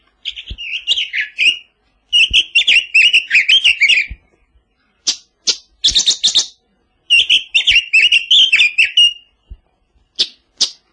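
A tugai nightingale sings short, melodic phrases in bursts separated by brief pauses, bright warbling notes mixed with a few sharp chirps, clear with no voices; recorded in riverside tugai thickets in Semirechye.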